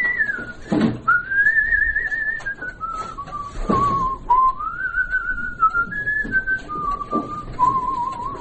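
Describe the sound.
A man, a restorer and musician living in the town of Vyatka, whistles for his wife: a slow, flowing melody with long sustained notes that glide up and down, clear, with no talking alongside it.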